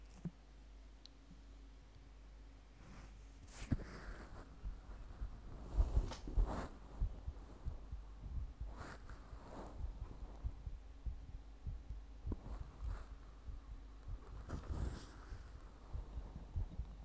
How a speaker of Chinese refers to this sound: 先生，只是让你听心跳，脸不可以来回蹭哦。